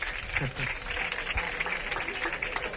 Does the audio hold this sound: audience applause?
yes